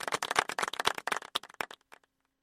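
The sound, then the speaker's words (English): A brief golf clap: a small group's polite, light applause, a quick patter of overlapping claps that thins out and stops after about two seconds. “How about the golf clap?”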